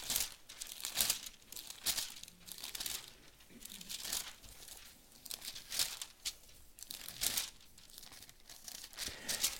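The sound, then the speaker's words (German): Many Bible pages rustle and flip at once as an audience leafs to 2 Kings 18, a steady scattered crinkling of thin paper from a roomful of people, with no voices, continuing for several seconds. “Darf ich nebenbei euch das kurz sagen, wenn ihr so lange ihr blättert?”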